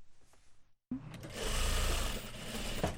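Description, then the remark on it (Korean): Sewing machines whir steadily in a small garment factory in Geumcheon-gu, Seoul, where about ten workers, all North Korean defector women, operate them; a dense mechanical rumble that starts abruptly after a brief quiet and stays loud, with faint chatter in the background. “이곳에 10명 정도 되는 직원들이 열심히 재봉틀을 돌리면서 일하고 있습니다.”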